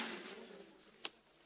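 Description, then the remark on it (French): A single short knock of a door being closed, over a soft, steady background hiss, with nothing else happening around it. “Alors vous fermez la porte comme ça.”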